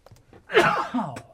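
A single sneeze: a faint intake of breath, then a sudden loud, breathy burst with a voiced tail that trails off quickly. No one speaks.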